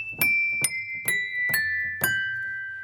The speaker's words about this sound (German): Und schließlich muss man nur noch die Tasten drücken, wie beim Klavierspielen. Schon klopfen die Hämmerchen an das Glas.